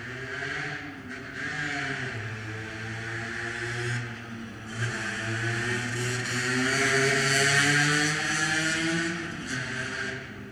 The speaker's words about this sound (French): Une place où les gens passent, il y en a peu qui s'arrêtent. Il y a des voitures surtout